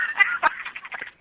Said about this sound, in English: He's also having a difficult fucking time hanging that phone up.